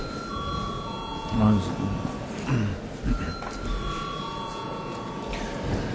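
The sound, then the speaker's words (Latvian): An electric bell rings during a Latvian parliamentary session, called for registration with voting cards before a break, in long, steady tones that stop and start again over a continuous low murmur of people talking. “Lūdzu, zvanu.”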